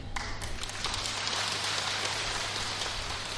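Loud, sustained applause from an audience at a Buddhist talk, a dense crackle of many hands clapping at once that holds steady for a few seconds with no voices.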